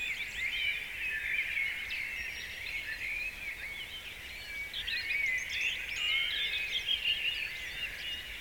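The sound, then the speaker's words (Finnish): A dense spring dawn chorus in a yard in Kirkkonummi, Finland: blackbird leading, with robin and tits, and redwing and song thrush as a background chorus, many overlapping chirps and warbling phrases, continuous throughout with no one talking. “Mutta ylivoimaisia pääsolisteja ovat rastaat, punarinta, tiaiset. Ja rastaista nimenomaan mustarastas.”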